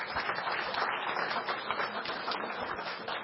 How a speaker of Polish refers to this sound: Ale myślę, że brawa się należą.